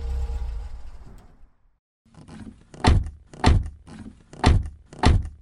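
A low car engine rumble fades out. After a short pause come the rattles and clicks of car doors opening as everyone gets out of the car, then four solid, evenly spaced thunks as the doors slam shut. No one speaks.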